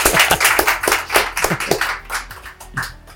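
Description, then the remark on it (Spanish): A few people clap together in a brisk, uneven burst of sharp hand claps that thins out and fades toward the end, with no talking. “La más fácil, un aplauso.”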